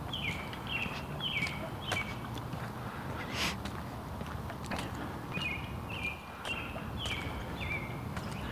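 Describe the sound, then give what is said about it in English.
A bird chirps in two short bursts of quick, repeated downward notes, clear, over a steady rumbling background of outdoor noise. No one speaks. “It's interesting, that bird chirp.”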